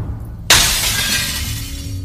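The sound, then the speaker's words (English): A sudden, loud crash of glass shattering, followed by a bright, lingering tinkle of shards that slowly fades over a low background rumble. No voices are heard. “Do you think they'll break through all the glass?”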